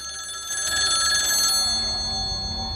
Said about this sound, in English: Brody grimaces at the sound of the phone, standing with his back against the closed bedroom door.